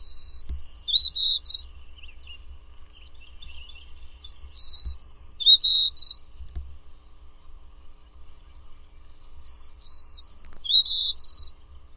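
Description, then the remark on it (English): A songbird sings three bright, warbling phrases of high notes, separated by short pauses, with a low rumbling hum underneath and no one speaking. “Birdsong was provided by National Audubon Society Birdsong Collection, Lang Elliott Music of Nature.”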